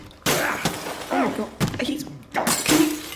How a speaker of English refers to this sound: Are you going to do anything? He's smashing up my bathroom.